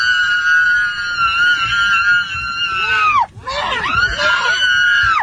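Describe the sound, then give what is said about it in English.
A woman screams loudly and shrilly aboard an aircraft, one long sustained shriek that breaks off briefly, then resumes in a wavering, cracking cry. “And then listen to the woman scream.”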